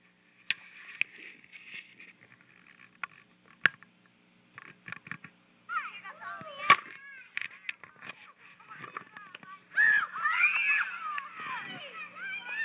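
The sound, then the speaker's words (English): Children playing outdoors, their high-pitched squeals and shrieking calls scattered at first, then growing busier and more overlapping, with no clear words. “So let's hear how some of you children are out there playing, and it might be a little bit hard to get you to come back in.”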